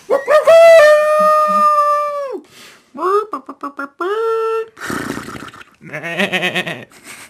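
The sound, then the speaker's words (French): A person's voice imitates a dog for an opening theme: a long, loud drawn-out howl, then a string of quick barking yelps. It ends with a few rougher, wavering animal-like cries, clear. “pourrait faire des bruits d'animaux aussi dans le générique. Miaou. Mmh. Un chien, un cochon.”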